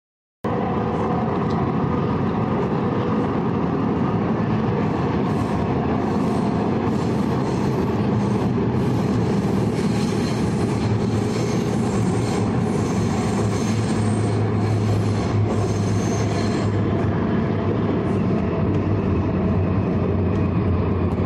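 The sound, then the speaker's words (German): A tram or train rolls steadily through a long right-hand curve in Nuremberg, a continuous rumbling roar with a low hum, while high, thin wheel squeals flicker on and off through the middle stretch. No one speaks. “Das ist jetzt eine langgezogene Rechtskurve, das hat man in Nürnberg neuerdings gemacht”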